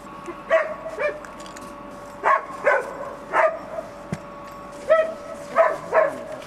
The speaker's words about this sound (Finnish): koira alkoi niin reagoimaan, alkoi niin vuotamaan, vikisemään, pikkusen haukahteli